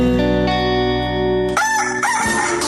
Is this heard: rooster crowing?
yes